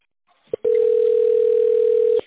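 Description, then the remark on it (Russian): A telephone system signal tone on the phone line of the Novatek Electro company, after which callers dial an extension: a brief click-like blip, then a loud, steady, mid-pitched beep holding for about a second and a half before cutting off, with no voices. “После сигнала наберите добавочный номер абонента или дождитесь ответа оператора.”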